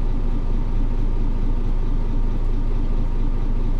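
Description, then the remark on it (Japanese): Steady low engine rumble and road noise from inside a moving city bus approaching its final stop in Kofu, a dense continuous drone at an even loudness with no voices. “停留所でバスが止まるまではお席でお待ちください。”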